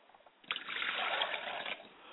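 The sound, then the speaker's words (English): Liquid is poured out as a libation to the east in a steady, splashy stream for just over a second, moderately loud, then stops abruptly. No voices accompany it. “I pour libations to the east.”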